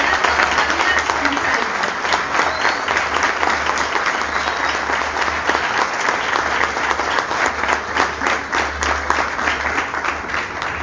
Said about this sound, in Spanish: Un fuerte aplauso.